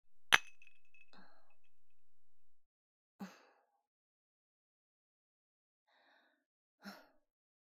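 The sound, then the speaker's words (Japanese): A single bright clink of glasses touching in a toast, its clear tone ringing on for a couple of seconds, followed by a few soft breathy sighs or sips. “乾杯。”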